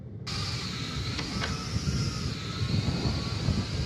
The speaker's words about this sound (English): Drone drops it off, no human connection.